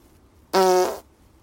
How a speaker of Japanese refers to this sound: ちょっとおなら出そうなので出します。